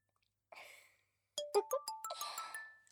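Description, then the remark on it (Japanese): A phone ringtone for an incoming call from a woman plays a quick, bright melody of chiming electronic notes, fairly loud, following a brief whooshing burst, with no one talking. “見てください先輩、あの女から着信ですよ。”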